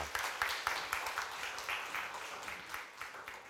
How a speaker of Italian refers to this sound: Facciamo un applauso al Signore così ci riscaldiamo un pochino.